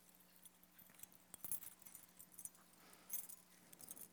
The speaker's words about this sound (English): Reach in your pocket, pull out your keys. Or your purse. Pull out the keys. No, I'm serious. Everybody, reach down, grab a set of keys. I got my own here too.